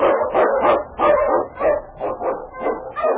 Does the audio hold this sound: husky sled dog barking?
yes